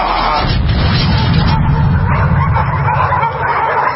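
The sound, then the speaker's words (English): In a video game, several beagles bark and yip in a continuous, frantic burst as they attack the character Dr. Fuker, their noise packed densely over a loud, muffled rumble with no clear pauses. “Fuker, and then the dogs eat him.”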